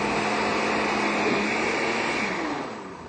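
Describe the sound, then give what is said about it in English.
A blender blends tofu sour cream with no water added, a loud, steady motor whir and churning noise for a few seconds, then begins to wind down near the end. No one speaks over it. “We'll blend this up, and then you'll be able to use this in other recipes.”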